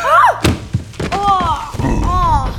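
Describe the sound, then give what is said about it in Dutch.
Klein Duimpje (Little Thumb), lost in a complicated pipe system, drops through a ventilation hatch in the ceiling, landing with a loud bang followed by two heavier thuds, while high, wavering vocal cries rise and fall around the impacts. “Net op dat ogenblik viel Klein Duimpje, die zijn weg was kwijtgeraakt in het ingewikkelde buizensysteem, dwars door een ventilatieluik in het plafond naar beneden.”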